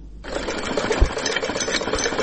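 A young Afghan woman's sewing machine, in a report from Kabul, runs steadily with a rapid, even mechanical whir and rattle, a dense continuous clatter that starts abruptly and continues throughout, with no voices.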